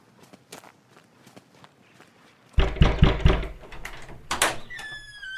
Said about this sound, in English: Follow me and I'll knock on the door.